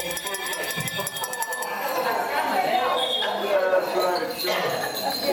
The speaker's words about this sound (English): If you've got a bell, ring it on the count of three. 1, 2, 3.